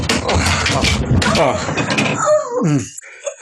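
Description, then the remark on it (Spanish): Heavy thuds and splintering cracks of wood as Calimán forces open a wooden door locked from the inside with two or three mighty shoves, ending in a brief creaking groan. “Y después de dos o tres formidables empujones, la puerta cede con un chasquido de madera rota.”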